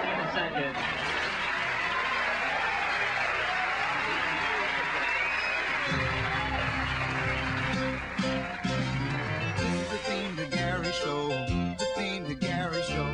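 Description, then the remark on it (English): The opening theme song of the Gary Show plays, starting with a noisy, crowd-like wash for about six seconds before steady tonal music with voice-like melodic lines takes over at a loud, constant level. “This is the theme to Gary Show, the opening theme to Gary Show.”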